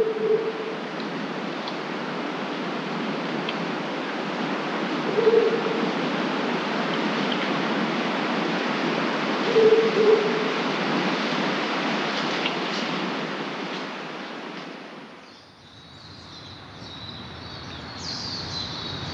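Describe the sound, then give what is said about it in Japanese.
A horned owl hoots faintly a few times at spaced intervals, low, after 4 a.m. before dawn, nearly buried under the steady rush of a stream; the water sound shifts near the end. “4時を過ぎるとミミズクが鳴き始めます。”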